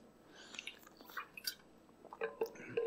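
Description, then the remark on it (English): Someone drinks from a giant water bottle: soft sloshing and wet gulping sounds come in irregular bursts, fairly quiet, with no talking. “My wife always gives me a hard time about my giant water bottle.”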